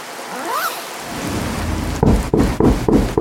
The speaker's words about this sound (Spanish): Aunque gracias a la lluvia hacía algo de frío